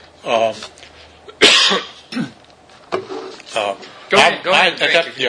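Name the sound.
coughing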